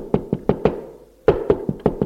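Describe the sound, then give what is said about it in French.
Sharp knocking on a door, two quick bursts: four even raps, a short pause, then five more at the same steady pace. The knocks are fairly loud with a dull, woody thud and no voices. “L'on frappe à la porte.”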